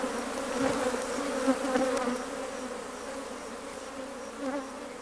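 A steady, low droning hum of honeybees buzzing together, with the swarm's tone swelling slightly at moments over five seconds; no voices present.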